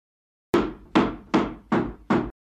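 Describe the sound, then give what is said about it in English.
Five sharp, heavy blows of a hammer striking a wooden table to flatten a bump in it, evenly spaced about every 0.4 seconds, each a loud crack with a short ringing decay. No voices. “why are you hitting that table with a hammer?”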